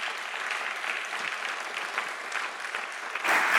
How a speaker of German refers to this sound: Gebt ihr doch einen kräftigen Applaus, wenn sie jetzt auf die Bühne kommt.